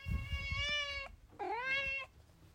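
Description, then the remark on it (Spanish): A female cat meows twice, a long drawn-out cry followed after a brief pause by a second rising, whining meow, with faint low background rumble underneath. “La gata.”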